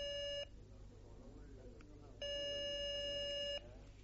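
A telephone ringing tone on the line as a call is placed: a brief burst, a pause, then a longer steady electronic buzz, loud, over a low background hum.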